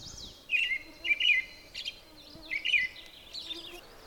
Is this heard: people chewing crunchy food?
no